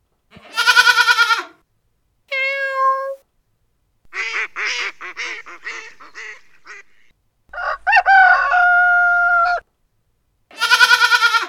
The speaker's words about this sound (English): Which animal did you hear twice? It was the goat. You heard the goat twice.